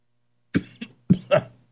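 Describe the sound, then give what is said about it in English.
A person coughs after talking in an imitated voice: a few rough coughs in quick succession, the first pair sharp and short, then a heavier double cough after a brief pause, with no talking. “Makes me cough talking like his voice.”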